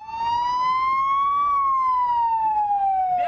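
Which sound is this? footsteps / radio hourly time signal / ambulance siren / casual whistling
ambulance siren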